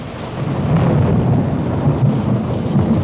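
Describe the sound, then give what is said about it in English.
A heavy downpour pours steadily, a dense, loud wash of rain with deep low rumbling underneath, continuous for the whole stretch with no voices. “Dillon, it's starting to rain. Yeah, it sure is. Really a downpour, Chester.”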